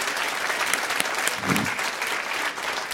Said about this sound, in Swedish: Ja, men då tycker jag att vi med en varm applåd ger dig chansen att framföra den här nya låten.